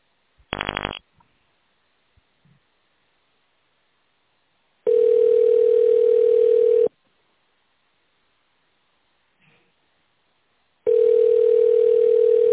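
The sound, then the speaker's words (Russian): A short keypad beep as 0 is pressed to reach the secretary of the construction company Nord-City, then a telephone ringback tone: two long, steady, low-pitched buzzes of about two seconds each, separated by several seconds of silence, with no voices. “Для соединения с секретарем нажмите 0 и дождитесь ответа.”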